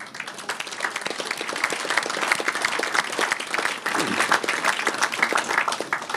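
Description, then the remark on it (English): A crowd breaks into sustained applause for the Libyan National Transitional Council and its President Abdul Jalil, many hands clapping in a dense, steady patter that stays loud and even for several seconds. “Let us give them a big applause.”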